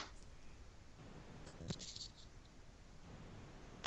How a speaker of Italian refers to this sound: bene, prendo un foglio, prendiamo questo. Ok, ecco, ho un pezzo di carta neanche tanto bello in mano, ok? Voglio sapere cos'è. Allora, gli metto sopra l'iPhone.